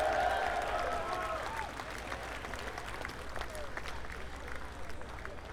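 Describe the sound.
An audience applauds a band's bass player and vocalist as he is introduced, a dense wash of many hands clapping at once, with a few cheers and some voices mixed in near the start before the clapping carries on evenly.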